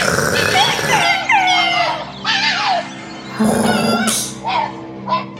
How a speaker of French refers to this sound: Elle a regardé par la fenêtre. C'était le renard qui glapissait de joie.